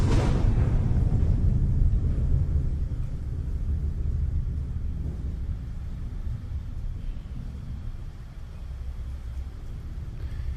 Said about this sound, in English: Yeah, no, this is the ad. Like, you can keep playing it. It's just rain.